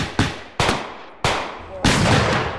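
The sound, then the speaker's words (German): A volley of gunfire from soldiers firing down from hills: four sharp, loud shots fired at irregular intervals, each cracking sharply and trailing off into a long, rolling echo that fills the space between them. “Von den Hügeln herab eröffnen die Soldaten das Feuer.”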